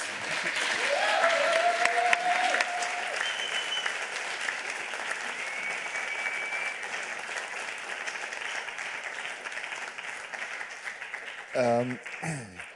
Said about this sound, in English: thank you for your talk and thank you for your great work. Give him a warm hand of applause.